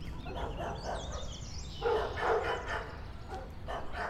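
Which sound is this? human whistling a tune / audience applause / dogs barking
dogs barking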